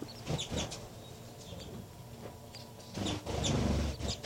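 Baby birds chirp in short, high peeps scattered irregularly over a few seconds, over a steady low rumble of background noise that swells near the end.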